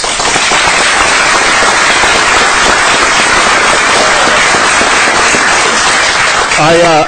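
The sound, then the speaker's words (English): An audience applauds loudly and steadily to recognize volunteers of the Friends of Appa Library, a dense wash of many hands clapping for about seven seconds, with a voice briefly breaking in as it ends. “I forgot to mention that if you just clapped, you committed to contributing and paying for two bricks at the new library, so thank you for that contribution.”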